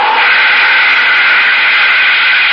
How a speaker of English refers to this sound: All right, start up the jets, Astro. I'll handle the controls. I hope everything still works. Well, the jets are okay.